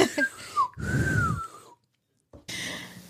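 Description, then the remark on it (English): Someone attempts to whistle but produces mostly breathy air, with only a thin, wavering tone sliding downward. A few puffs are followed by a brief silence and another breathy burst. “I can't even whistle.”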